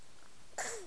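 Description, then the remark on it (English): A single small sneeze bursts out abruptly near the end, a sharp breathy hiss followed by a brief falling squeak, fairly loud after a quiet stretch. “Bless you.”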